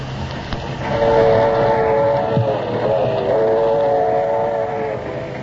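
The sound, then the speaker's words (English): A train rolls along the rails with a steady rumble, while a sustained, wavering horn-like tone sounds over it for most of the few seconds. No one speaks. “No, I've barely time to catch me train.”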